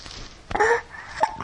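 A young child hiccups twice, each a sharp little catch with a brief voiced squeak, fairly soft, about two-thirds of a second apart.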